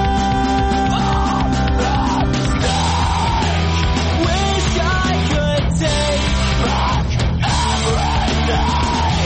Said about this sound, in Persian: و البته یکی دیگه از این روش ها هم ادای آواز این موسیقی به شکل جیغ و داد یا فریاد بود، چیزی باز هم شبیه آواز همین آهنگی که حالا و زیر صدای من میشنوید.